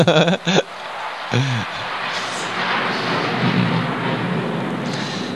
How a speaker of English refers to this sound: This is confirmed by the jet. I mean, it's a real good statement you made. See, the devatas are applauding you by sending a jet.